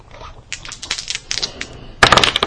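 Computer keyboard keys, including the escape key being hit repeatedly, clack in quick, uneven bursts of sharp clicks, growing louder and denser near the end as rapid keystrokes pile up. No one speaks.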